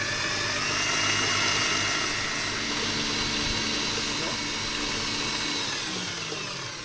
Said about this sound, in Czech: Teďko dáme do robota žloutky. Přisypeme krystalový cukr a vyšleháme do pěny.